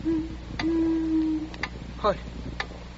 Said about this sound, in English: Oh, it must have been an owl. Oh, thank heaven.